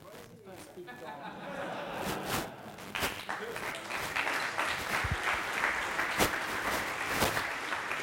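An audience applauds steadily for several seconds after a gong is struck, a dense wash of many hands clapping at once in a room, with a few sharper, louder claps standing out near the end.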